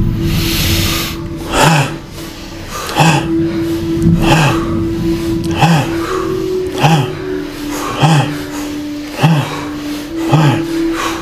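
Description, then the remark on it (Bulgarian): Forceful, rhythmic bhastrika chest breathing in a guided breathing exercise, about nine or ten sharp, hissing breaths repeating roughly every second, loud, over a soft sustained low drone with no talking. “А сега мини към гръдно дишане, бастрика.”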